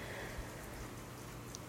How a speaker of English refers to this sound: Ooh, listen to it rain.